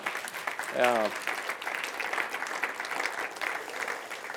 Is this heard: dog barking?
no